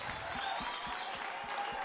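An audience applauds in honour of the late Carmen Echavarría, a dense, steady wash of many hands clapping at once, holding an even, fairly strong level throughout without pausing or fading.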